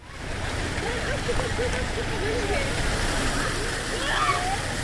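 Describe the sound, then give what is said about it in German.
Steady rushing, splashing water at a Dead Sea spa facility with swimming pools, mud baths and water slides, where families are bathing, with indistinct voices chattering in the background throughout. “Swimmingpools, Schlammbäder und Wasserrutschen. Familien genießen den Badespaß am Toten Meer.”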